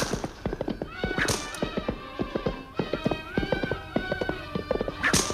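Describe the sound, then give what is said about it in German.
Rapid, overlapping hoofbeats clatter as several ridden donkeys gallop along the left bank of the Nile, past the Memnon columns and temples, a continuous clip-clop rhythm with occasional brighter tonal calls rising above the pounding. “Im gedämpften Eselsgalopp ritten wir am linken Nilufer entlang, vorbei an den berühmten Memnonsäulen und den ebenso berühmten Tempeln von Medinet, Habu und der El-Bahri.”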